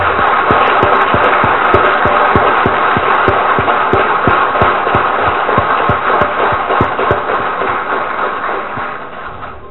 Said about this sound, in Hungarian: Tartozunk egy tapssal a felkészítő tanárnéniknek. Ajándékozzuk meg őket, megérdemlik!